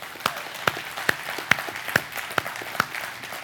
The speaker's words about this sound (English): We have some police officers in this room. Let's give them a round of applause today.